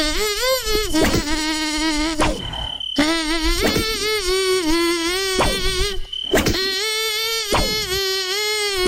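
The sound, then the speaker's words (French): A loud, whining buzz like a mosquito drones almost continuously, its pitch wavering slightly, with a few brief breaks before it starts up again. “Est-ce que tu as un deuxième moustique ou un cafard ou une bestiole?”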